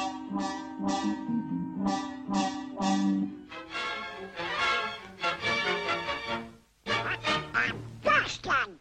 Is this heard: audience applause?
no